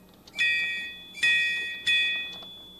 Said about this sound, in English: Hello there, trolley. Hear the trolley with his ding and his whistle? Would you do your ding and your whistle together, trolley?